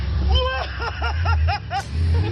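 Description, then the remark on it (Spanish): A man revs his car engine hard to mock reporters, a quick series of sharp, rising-and-falling blips over a steady low rumble, loud. “Y ahí pegaba un acelerón a su coche para reírse de los reporteros.”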